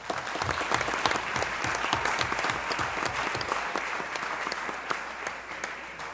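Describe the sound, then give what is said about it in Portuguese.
An audience at a ceremony of the Associação Paulista Sudeste of the Seventh-day Adventist Church applauds steadily as a guest is invited to the place of honour, a dense, even patter of many hands clapping at a constant level for several seconds, with no voices standing out. “Uma salva de palmas.”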